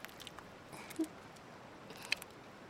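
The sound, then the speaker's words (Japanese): Soft, wet foam being worked by hand, with faint crackling bubbles and a few small squishy pops scattered across a quiet stretch with no voices. “しっかりと泡を絡めて、まずそこからゆっくりと、”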